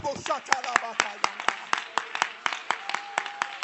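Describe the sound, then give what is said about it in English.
A crowd claps hands to magnify the Lord in a steady, even rhythm, roughly four sharp claps per second, with raised voices and a faint sustained tone sounding underneath the beat. “Oh, let's clap our hands and magnify the Lord.”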